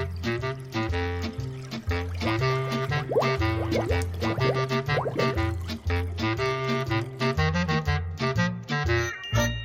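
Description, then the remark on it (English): Loud, continuous bubbling and gurgling liquid, with rapid pops and rising watery tones that keep up steadily for several seconds, with no voices. “More bubbles.”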